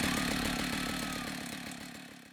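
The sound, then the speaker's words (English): A chainsaw, started by pulling its cord, roars loudly and steadily, a harsh buzzing snarl with a rapid pulsing rattle that eases off only slightly toward the end. No one speaks. “And she held a chainsaw, which she pulled the cord on it and it roared to life.”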